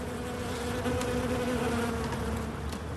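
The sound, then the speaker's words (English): A dense, steady hum of many bees buzzing close together around a hive kept by a beekeeper on the roof of the Paris Opera, a continuous droning swarm with no talking over it. “He was tending his bees.”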